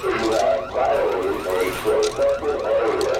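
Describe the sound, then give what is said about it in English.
A store's motion-sensitive alarm in Macon, Georgia, set off by a thief who hid in the store until after closing time, blares with a loud electronic tone rising and falling in quick repeating cycles with no pause throughout. “Now he's set off a motion-sensitive alarm.”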